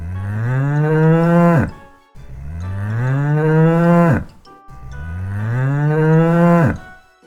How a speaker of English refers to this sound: It's a cow. Moo.